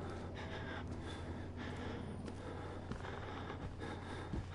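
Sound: heavy breathing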